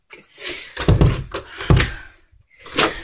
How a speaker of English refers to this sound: Knocking on my door one more time.